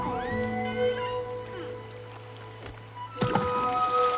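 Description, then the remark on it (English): A single orange, taken from a bag, is thrown and lands in water with a short thunk and splash, heard over steady humming tones in the background. “He throws an orange.”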